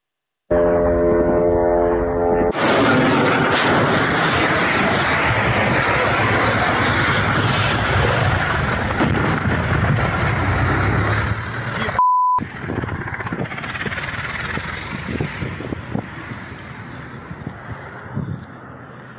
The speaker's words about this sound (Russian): Я вот еще попрошу наших редакторов включить видео взрывов в Белгороде. Посмотрим, что там происходит.